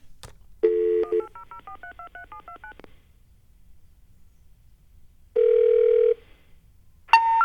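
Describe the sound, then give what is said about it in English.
A quick run of telephone keypad dialing tones, a dozen or so short paired beeps in steady rhythm after a brief dial tone, dialing a 1-800 number, followed later by another steady tone and a rising intercept chime for a disconnected number. “I love dialing phone numbers.”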